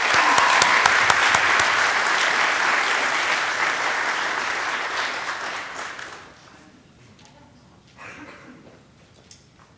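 An audience applauds to welcome guests, a dense, steady wash of many hands clapping for about six seconds before it fades out, followed by a few scattered claps and faint murmurs.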